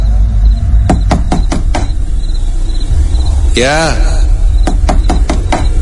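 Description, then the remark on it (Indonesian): A quick series of five sharp knocks on a bedroom door, a voice briefly answering, then another burst of rapid knocks, all over a steady hiss of background noise. “Saat aku akan kembali untuk tertidur, tiba-tiba ada yang mengetuk pintu kamar.”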